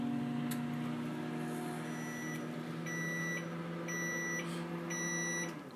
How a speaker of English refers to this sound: We're going to start, though, this mixture in the microwave oven, and we're going to give it 2 minutes to start now.